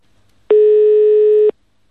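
A single steady telephone ringing tone sounds for about one second, loud and clear over a quiet line, with no voices around it, as a call is placed to SIO about temporary student housing.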